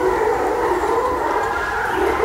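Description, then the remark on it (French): A pack of hunting dogs bays during a hunt among trees, in a continuous, overlapping chorus of howling cries, steady and fairly loud throughout, with no talking. “Ah, Les chiens sont là. J'ai trop chassé les chiens. Vous entendez ?”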